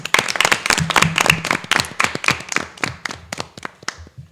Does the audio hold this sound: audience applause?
yes